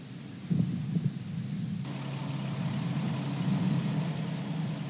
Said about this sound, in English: And with that, we see the fires lit, the engines start to roar, and lift off. Scott Tingle, Anton Shkaplerov, and Noroshihi Kanai on their way to the International Space Station.